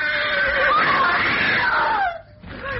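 A loud, shrill whinny from Crusader, a horse striking with its hooves at a five-foot snake, with strained, wavering pitch, runs for about two seconds, breaks off briefly, then a second, quieter squeal begins.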